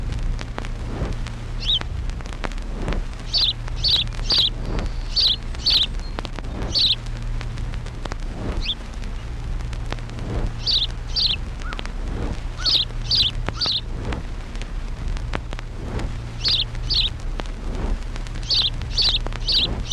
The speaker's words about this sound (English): House Sparrow.